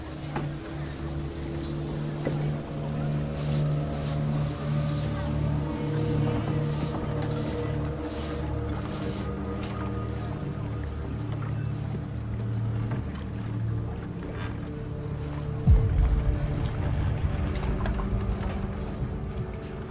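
A boat's engine drones steadily on the water, a low continuous rumble with lapping water, and a brief louder thud near the end.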